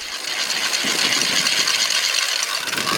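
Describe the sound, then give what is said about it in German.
A wooden ratchet rattle being cranked in place of the bells, giving a loud, continuous, rapid clatter of sharp clacks that runs steadily for the whole stretch with no voices. “Maria hat gesagt, es ist 6 Uhr und haben geratscht, im Platz von den Glocken.”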